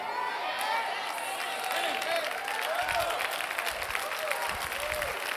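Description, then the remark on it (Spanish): During a sermon, a crowd applauds God steadily with dense, continuous clapping, mixed with scattered cheers and shouts throughout. “Pero denle un aplauso bien bueno a Dios.”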